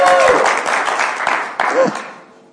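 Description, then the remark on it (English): An audience applauds the tech team with dense, steady clapping, a couple of brief whoops rising above it, before the applause tapers off and fades out over a few seconds. “Big round of applause to the tech team.”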